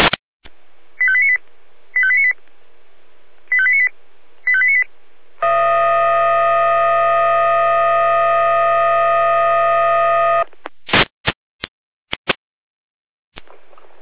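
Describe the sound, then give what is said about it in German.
Radio alerting tones from the Jena fire brigade dispatch centre in Germany, alerting the Frauenbriesnitz fire brigade to a water ingress: four short paired beeps, then a loud, steady, multi-pitched tone for about five seconds, followed by a few sharp radio clicks and crackles. “Leitstelle Jena mit Alarmierung.”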